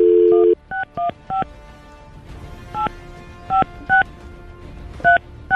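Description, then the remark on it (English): A steady tone cuts off, then a series of short touch-tone telephone keypad beeps as a number is dialed to make a call, in quick irregular bursts, about eight or nine distinct presses, clear with faint background hiss and no talking. “We're going to make a call real quick.”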